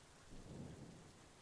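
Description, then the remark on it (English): Steady, soft hiss of rain pattering onto a lake, a continuous wash of tiny splashes with a faint low rumble swelling briefly in the middle. No voices. “See how it looks with those drops splashing all across the water?”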